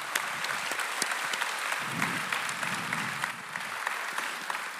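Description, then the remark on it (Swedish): An audience claps steadily as party leader Gustav Fridolin is welcomed onto the stage before a Swedish election, a dense, even patter of many hands at moderate loudness with no voices over it. “Det är många applåder idag.”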